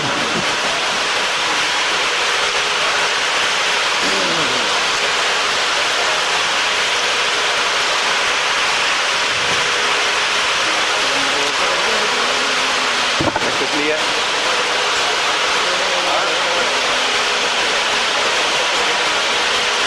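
Heavy rain pours down in a steady, dense hiss that fills the whole stretch without letup, with faint voices murmuring somewhere beneath it.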